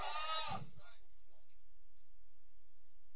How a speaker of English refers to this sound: That's a sheep.